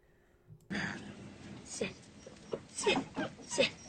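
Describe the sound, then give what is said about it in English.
A puppy, Buster, lets out a few short, high whimpers over steady rustling and shuffling as it moves around in a flower patch, with the whines growing more frequent toward the end. “Ah, puppies, can't take your eye off them for a minute, can you?”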